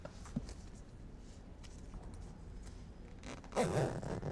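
A few seconds of quiet fabric rustling and handling sounds, then a short, raspy zipper pull near the end as someone zips up a person's jeans.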